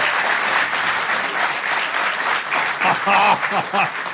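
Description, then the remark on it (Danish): A live show audience claps steadily in a dense, even burst of applause lasting several seconds, clapping to answer how many have seen From Dusk Till Dawn, with a voice briefly speaking over it toward the end. “Det her, det er en podcast, så I må meget gerne klappe besvaret, hvor mange har set From Dusk Till Dawn her til i aften.”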